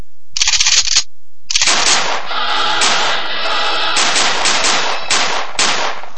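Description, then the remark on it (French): Rapid bursts of automatic gunfire crackle loudly, a short volley, a brief pause, then a long sustained barrage of overlapping shots and reports with no voices. “C'est les feux d'artifice avant l'heure à Tonon, quand même.”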